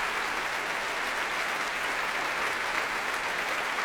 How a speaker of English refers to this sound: Applause here at the Royal Albert Hall for E-flat clarinet John Cooper. All the winds and brass on their feet, indeed the strings too, and Thierry Fisher enjoying the warm applause here of the audience.